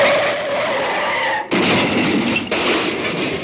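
A car's tires squeal in a sustained skid, then cut off into a loud crash of smashing metal and shattering glass, followed by a second burst of debris. Loud, with no voices.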